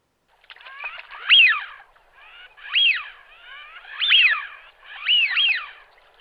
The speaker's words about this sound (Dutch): In de winter zie je hier honderden sminten en hoor je hun typisch geluid.